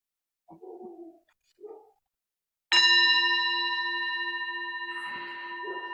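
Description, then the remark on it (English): A meditation bell is struck once, giving a bright, sustained ring with layered overtones that hums on and slowly fades. Two brief, soft murmurs come before the strike. “And I'll start and end with the bell.”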